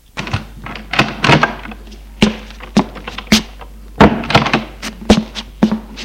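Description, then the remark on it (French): A door is opened as a child of about twelve enters, amid a flurry of sharp wooden thunks and clacks, irregular knocks and latch rattles spread over several seconds, with a low steady hum beneath. “La porte s'ouvre.”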